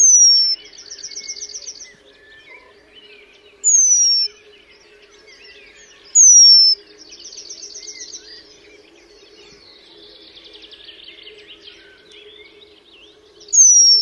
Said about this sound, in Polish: Głos kontaktowy remiza to bardzo wysoki, przeciągły, opadający gwizd. Nie dość, że jest on bardzo cichy, to jeszcze wydawany w dość długich odstępach, co sprawia dodatkowe trudności z wychwyceniem go w terenie.